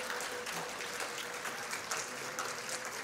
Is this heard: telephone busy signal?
no